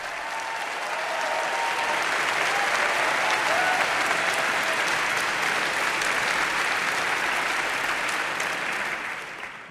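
A large audience at the New Yorker Festival in October 2019 applauds enthusiastically, welcoming interviewer Terry Gross; a dense, steady roar of clapping that holds strong for nearly ten seconds before easing slightly at the end, with no talking over it.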